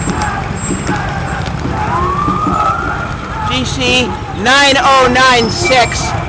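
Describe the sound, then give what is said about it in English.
A police car's siren wails loudly over constant street traffic noise as it forces its way past street barricades through solid traffic, its pitch sweeping up and down as the vehicle passes, rising to a piercing peak near the end. “One of the cop cars had to ram the barricade to get by. There it is.”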